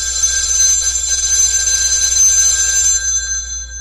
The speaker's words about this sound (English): Oh, wait. I have to get this phone call.